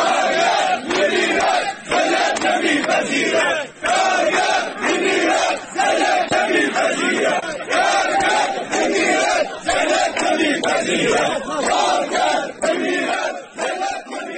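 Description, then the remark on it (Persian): A large crowd of striking Mian Ab agro-industrial company workers, gathered in front of the Karkheh labour office in Shush, chants loudly and steadily in unison, the roar of many voices rising and falling in a regular rhythm with brief dips every couple of seconds. “صدها تن از کارگران کشت و صنعت میان آب اعتصاب و در مقابل اداره کار کرخه تجمع کردند.”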